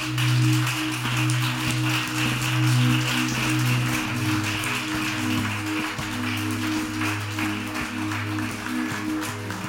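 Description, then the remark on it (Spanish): A church audience applauds the name of Jesus steadily at a Sunday morning service, a dense wash of many hands clapping that holds at an even level throughout, with sustained low keyboard chords droning underneath. “¿Te animas a levantar un aplauso al nombre de Jesús?”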